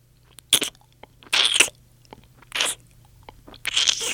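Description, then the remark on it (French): A giraffe munches acacia leaves from the top of a tree in the savanna, in four loud, crunchy bursts of chewing, spaced irregularly with quiet pauses, over a faint steady low hum. No one speaks. “Avec son long cou, elle est en train de manger des feuilles d'acacia tout en haut d'un arbre.”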